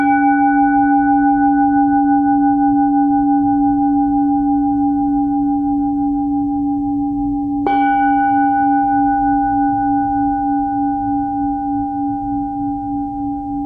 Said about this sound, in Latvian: Gonga skaņas ir daļa no kristīgās meditācijas, ko māca Indulis Paičs. Tā uzdevums ir pārtraukt mūsu domāšanu un kustēšanos, tas mūs aptur, viņš saka.